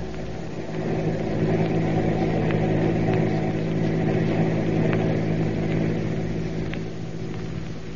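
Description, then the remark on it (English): A steady car engine drones on without a break as the car follows a truck, a dense low rumble with a constant hum, and faint ticks and clicks come through now and then. No one speaks. “Keep on the tail of that truck.”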